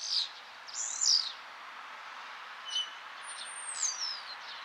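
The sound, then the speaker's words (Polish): A common starling sings from the top of a spruce above a nest box in spring, a varied run of high-pitched notes: squeaky chirps, buzzy rasps and a long whistle that slides downward, in short, irregular bursts with no voices present. “Jednak dzisiaj czas na cztery łapy, zanim jednak to szpak.”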